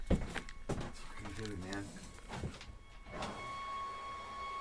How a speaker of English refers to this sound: Leaf blower. You've got leaf blower noise. Yeah. They have a filter for that.